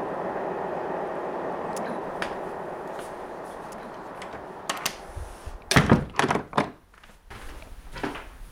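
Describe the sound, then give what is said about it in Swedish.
A train rumbles past below a home's balcony as a steady, broad roar, then fades while a few sharp, heavy clunks ring out near the end. No one speaks. “Nu far just tåget förbi här, det hörs alltid.”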